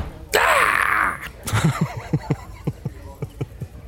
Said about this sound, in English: Suddenly, Grandma kicks in the door.